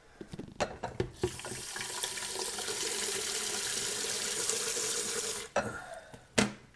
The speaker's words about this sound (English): Just a second, I need to fill my kettle up.